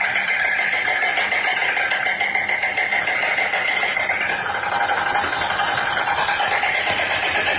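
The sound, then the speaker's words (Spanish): A steady, dense chorus of European bee-eater calls: overlapping rolling, purring trills at a fairly high pitch, continuing without pause at an even loudness, with no one speaking. “Vea, escuche el abejuraco europeo, así suena, escuche.”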